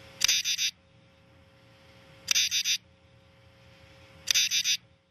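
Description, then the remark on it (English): A common true katydid sings in three evenly spaced bursts, each a quick set of three or four raspy, buzzing pulses, loud against a quiet background. “And we happen to have, I believe, we happen to have a clip of the common true katydid. And let's listen to that for a second.”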